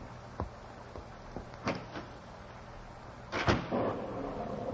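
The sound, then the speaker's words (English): A door is opened by the Butcher at his new place, with a few sharp clicks and a louder rattling thump near the end, over a steady background hiss with no one speaking; rain is falling. “I watched him walk inside the door and saw the thin face of the Butcher as he opened the door.”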